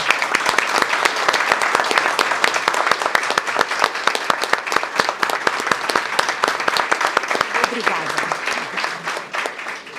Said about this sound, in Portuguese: Então, eu peço uma salva de palmas. Muito bem.